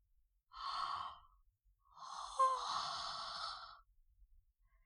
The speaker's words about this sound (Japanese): 私もおじさんにつられてあくびしちゃった。